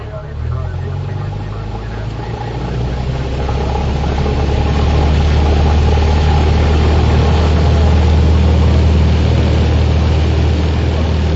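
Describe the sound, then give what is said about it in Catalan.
A small propeller aircraft engine idles at Sabadell airport, heard from inside the plane while the pilot requests permission to enter the runway for takeoff, with a steady low drone and a buzzing, throbbing rumble, fairly loud, holding constant throughout with slight swells in intensity. “Estàvem a Sabadell, a l'aeroport de Sabadell, per demanar el permís per agafar la via per tirar cap amunt.”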